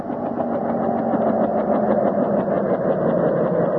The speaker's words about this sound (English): There she is, Professor. Right on time. It's just after 5. Oh, that's some big helicopter. Mm. Oh, the pilot sees us. Yeah, it's almost down.